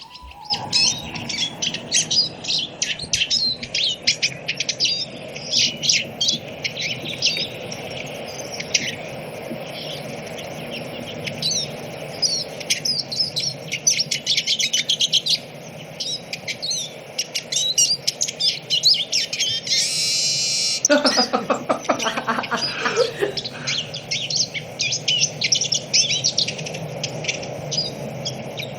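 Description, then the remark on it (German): A Eurasian siskin sings a fast, continuous twittering song of rapid chirps and trills, with a drawn-out wheezy note partway through, clear against faint background insect hum. “Dann hören wir jetzt einmal den Erlenzeisig uns an.”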